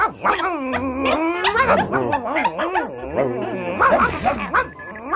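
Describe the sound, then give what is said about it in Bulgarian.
Dogs barking and yelping in the evening almost without pause, their pitched, whining calls rising and falling over one another, fairly loud throughout. “Я чуй, започва вечерният лай, жребчето ми.”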